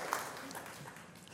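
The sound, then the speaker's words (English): A crowd claps steadily, a dense patter of many hands merging into a continuous wash of noise at moderate volume, with no one speaking over it. “Thanks for clapping.”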